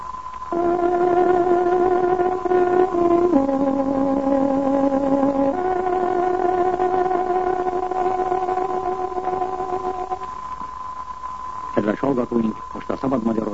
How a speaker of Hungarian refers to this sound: Kedves hallgatóink, pontos időjelzést adunk. Tárogatónk hangja 20 órát jelent.